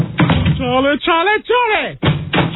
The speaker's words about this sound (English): What are you doing with the door? Well, please stop opening and closing the door. Every time I hit the door, you change the personality. Don't do that, please.